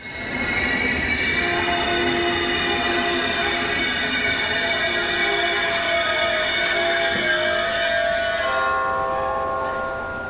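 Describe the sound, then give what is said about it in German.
A German ICE high-speed train pulls into platform 11 of a station with a loud, sustained metallic squeal of brakes and wheels that rings through the whole stretch, easing off toward the end as it slows to a stop. “auf Gleis 11 ist eingefahren der ICE Romy Schneider aus Tanzen an der Donau”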